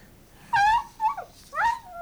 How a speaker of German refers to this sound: Hör auf zu kläffen, du verdammte Tröle! Hunter Scotts Hund scheint ihren Bruder nicht zu mögen, Mrs. Untertal.